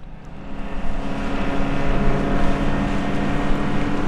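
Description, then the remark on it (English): A motorboat engine drones steadily as a boat travels on a river between the villages of Newtok and Mukhtavik, a 25-minute trip; a constant rumbling hum with a slight rise in loudness. No voices. “25 minutes by boat gets you from Newtok to Mukhtavik, and it's a brand new village in every sense.”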